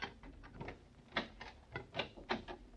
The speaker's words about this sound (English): Okay, wait till I unlock the door.